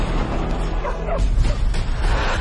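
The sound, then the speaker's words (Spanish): A dog barks and yelps in a quick, agitated burst, with sharp high yips over a steady low rumble of background noise, and no talking. “Perro, escucha el perro”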